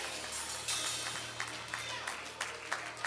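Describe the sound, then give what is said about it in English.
An audience claps hands as praise to God in a steady, dense burst of applause lasting a few seconds, with sharper individual claps popping out over a constant low hum. “God, a hand clap of praise.”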